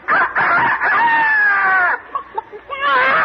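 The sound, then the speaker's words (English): A person loudly imitates a crowing rooster, with a long wavering cock-a-doodle-doo call, a few short choppy sounds, then a final rising crow. “This is an imitation of a bird.”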